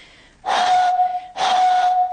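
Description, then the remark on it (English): Two breathy notes blown across the top of an almost full milk bottle, each a steady hollow tone wrapped in airy hiss, fairly loud, separated by a short pause. “So to make this vibrate, instead of putting my finger around the bottle top, what I'm going to do, what most people would do when they play this, is blow across the top.”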